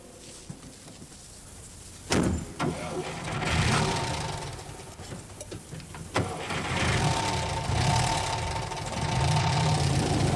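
A handsome car's engine starts up with a few sharp clicks and thumps, then revs steadily before the rumble continues and gradually shifts as the car pulls away.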